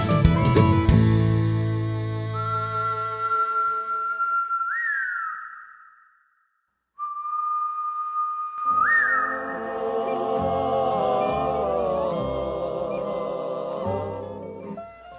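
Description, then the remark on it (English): A person whistles a slow cowboy melody in a Western song, long sustained notes gliding upward, with a brief pause midway, over a soft harmonic instrumental backing that swells after the break. “It's a cowboy's longbow whistle and is singing by their side.”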